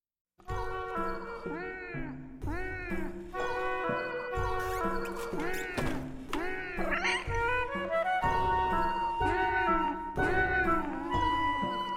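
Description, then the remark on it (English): A cat meows insistently over and over, its rising and falling cries following one another almost without pause for several seconds, loud, with no talking. “Heeding the call of the wild, even if it's from the cat in the kitchen.”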